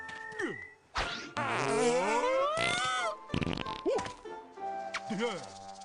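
fart sound effect

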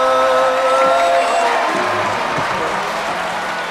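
crowd cheering

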